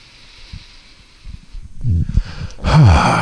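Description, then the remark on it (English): Slow, audible deep breathing as a relaxation exercise, breathing all the way down to the pelvic floor: a soft, airy inhale building to a louder, fuller exhale near the end, with faint rustling underneath and no talking. “So you can take this breath, breathing all the way down to your pelvic floor, and you can just keep going with it as long as you want.”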